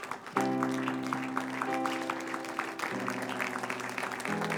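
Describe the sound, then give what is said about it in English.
An audience claps hands in a steady rhythm for the pastor as he comes, over loud, sustained organ-like chords that shift pitch partway through, the clapping mixed beneath the music with no voices. “And give our pastor and the Lord a hand clap as he comes.”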